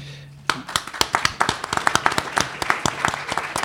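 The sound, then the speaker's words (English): Applause from an audience at an Innovation KC series event, as the moderator takes over, starts abruptly after a brief low hum: a dense patter of many hands clapping at a steady, lively level for a few seconds. “You're already violating the no applause rule.”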